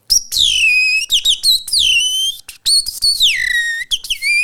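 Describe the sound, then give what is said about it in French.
A person whistles an imitation of a robin's song: bright, high, rapid phrases of sliding and trilling notes with short pauses between bursts, loud and alone without speech. “un merle comme ça, et puis un petit rouge-gorge, un...”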